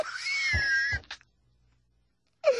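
A cat on TV lets out a long, drawn-out meow, then falls quiet before starting a second, lower meow that cuts off at the end. Clear, with no talking.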